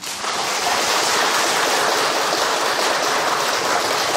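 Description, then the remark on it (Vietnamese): An audience at a Buddhist dharma talk applauds steadily, many hands clapping at once in a dense, even wash of sound that holds at the same loudness for about four seconds, with no voices over it. “Cho anh tràng pháo tay.”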